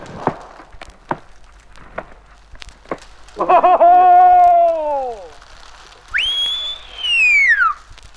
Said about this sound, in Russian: Один свисток. Внимание, приготовились. А второй уже? Два свистка сразу. Это чтобы близко вас около взрыва не было.